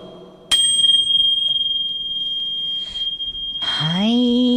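A single struck orin bell opens the show Sonna Osho no Hitorigoto, ringing out with a sharp attack and a clear, high, sustained tone that lingers for several seconds before music with a rising low tone comes in.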